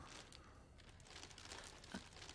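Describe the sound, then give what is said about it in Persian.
Steady crinkling and rustling of very shiny gift wrapping paper, a soft crackly texture lasting a couple of seconds with no one talking. “کاغذ کادوی بسیار درخشانی داره.”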